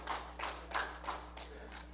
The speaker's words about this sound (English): Give Jesus a hand clap of praise this morning. He's worthy. Amen.